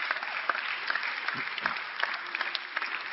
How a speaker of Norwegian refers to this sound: Var det ikke fint å høre gudstjenestekoret synge? Så skal vi gi dem en ekstra applaus, jeg og lovsangsteamet.